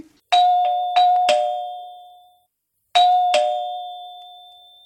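household object, doorbell ringing

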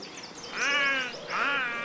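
bird, crow cawing

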